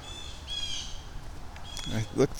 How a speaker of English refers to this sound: And I keep thinking I'm hearing an angry bird up here, which might mean we have owls up here. Oh, who's that? Yep. Flap, flap, flap. And all the birds are now going crazy. We got a big owl.